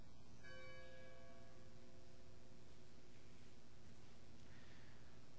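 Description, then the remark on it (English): A single memorial bell is struck once as a last candle is lit, its clear ringing tone lingering and slowly fading over a couple of seconds against a steady background hiss. “The last candle and the last bell rang will be lit and rang as we lift up those Christians who have died by sharing their faith.”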